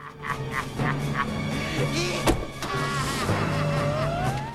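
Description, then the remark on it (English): A security service patrol car engine hums steadily and pulls away, its pitch climbing into a rising whine, with a sharp click partway through and no one speaking. “He drives off.”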